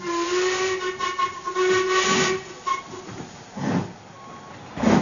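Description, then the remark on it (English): A steam train whistle sounds in long sustained tones over a constant hissing of steam, with bursts of chuffing and station bustle around it at Victoria Station, fairly loud. “Listen. What is it? Victoria Station.”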